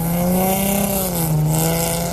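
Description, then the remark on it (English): A car engine revs loudly and steadily at a car show in Wayne, Pennsylvania, on a Sunday morning, its deep droning pitch rising and dipping slightly over a couple of seconds, with no voices. “I have to say I am impressed with some of the people, the different sounds they can make come out of their cars.”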